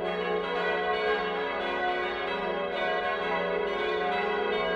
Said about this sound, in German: Soweit ich das mitbekommen habe, ist die Glocke mit großer Freude von der Kirchengemeinde angenommen worden.